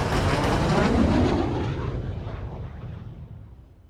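A loud, rumbling roar of military jets sweeping low overhead past a spectator grandstand, following military helicopters, the thunderous noise peaking early and then receding over a few seconds, with no voices.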